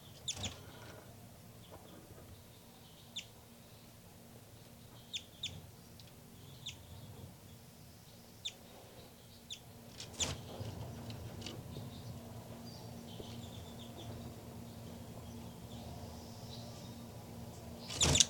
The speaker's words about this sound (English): Baby birds calling on the nest on the side here.